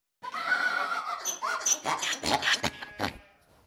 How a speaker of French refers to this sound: Voici le papa âne, la maman ânesse et le bébé ânon. L'âne braie.